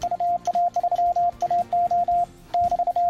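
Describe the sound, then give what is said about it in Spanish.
A steady, mid-pitched tone keys on and off in quick bursts of short dots and longer dashes, tapping out Morse code over a faint crackly background, with no one speaking. “Buenos días Madrid, son las 17 minutos de la mañana del miércoles 27 de abril, que es el día de concienciación sobre el ruido, pero también el día mundial del código Morse.”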